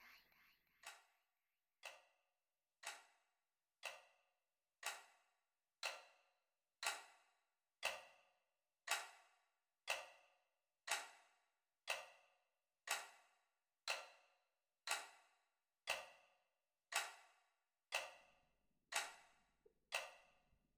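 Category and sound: household object, clock ticking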